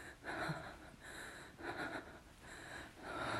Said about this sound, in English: Ooh, I can hear it in your rapid breathing and in hers.